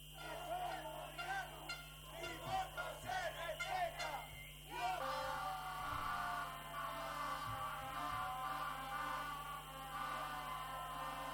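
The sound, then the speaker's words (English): A large crowd of Ecuadorian indigenous people in the capital, Quito, protesting alleged electoral fraud and demanding a presidential election recount, chants in rhythmic bursts for several seconds, then the voices merge into a sustained, loud roar of shouting that continues without pause. “Crowds of Ecuadorian indigenous people have arrived in the capital, Quito, to protest an alleged electoral fraud.”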